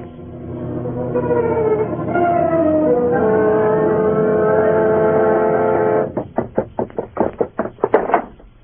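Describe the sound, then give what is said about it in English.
A low, wavering groan of layered tones swells and hangs, then gives way to about nine loud, heavy metallic clanks in a quick, uneven series as the heavy chain of Jacob Marley's ghost clangs and clatters on the cellar stairs behind the fleeing Scrooge. “The sound grew louder on the cellar stairs, rose higher in the empty halls below, and then clanged and clattered on the stairs behind Scrooge as he fled.”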